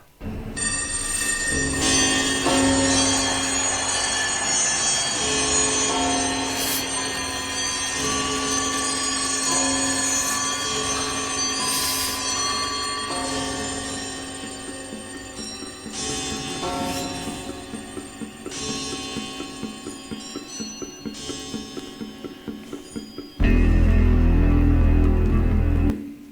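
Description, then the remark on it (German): Sustained, shimmering metallic tones from singing bowls built into a kind of organ ring out together as chords, layered and droning for long stretches, ending in a louder, rumbling low burst near the end. “Das sind jetzt dieselben Klangschalen, nur in einer Art Orgel eingebaut.”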